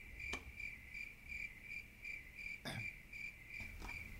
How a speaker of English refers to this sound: Oh god, who let those crickets in? I'm allergic to crickets.